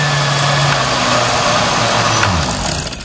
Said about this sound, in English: A blender making a smoothie?